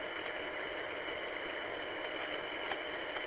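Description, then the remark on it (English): A small tractor engine idles steadily as it is taken around behind to work on fixing up a driveway, a continuous mid-range rumble with a faint rattling texture, holding an even level throughout with no voices. “My little tractor around behind, and here we go.”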